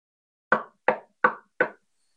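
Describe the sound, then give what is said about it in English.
Four firm knocks on a door, evenly spaced in a steady rhythm, fairly loud, with silence before and after. “You answer the door, and it's a Nazi soldier.”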